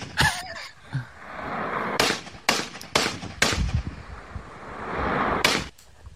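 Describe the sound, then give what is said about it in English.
Gunshots ring out in an irregular series as a man fires a gun, about seven sharp cracks with short echoing tails over steady outdoor background noise, some in quick pairs and one after a longer pause. “Look at this guy shooting a gun. This guy's shooting a gun, bro.”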